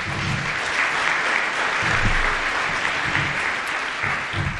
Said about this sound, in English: Let's give this group a round of applause.